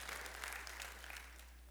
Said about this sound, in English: It was the start of a clap. Can I clap now, Pastor? We can. It's all good.